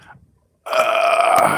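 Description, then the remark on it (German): A loud, drawn-out burp from a person sitting in a car erupts suddenly after a brief quiet moment, rumbling steadily for nearly a second without any talking. “ich habe einen Rülps an Hals gehabt.”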